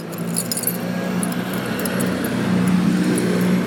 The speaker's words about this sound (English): Noisy vehicle.